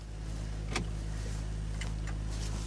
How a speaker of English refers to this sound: The car pulls to a halt outside a single-storey house.